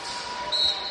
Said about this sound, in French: Nouveau coup de sifflet. Oh, c'est marché. C'est marché, sifflé contre le Slack.